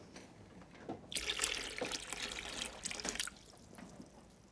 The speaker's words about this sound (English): We need some water, a kettle, and a mirror. That's water, a kettle, and a mirror. Now listen. Put some water in the kettle.